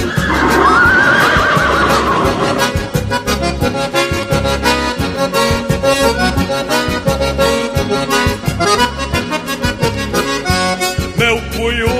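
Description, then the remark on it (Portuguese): A stallion's loud neigh rings out at the start, a shrill quavering whinny lasting a couple of seconds, then gives way to busy rhythmic music with a steady beat. “Para amansar essa éguada, não é preciso jinete, basta apenas um relincho do cunhudo do Alegre.”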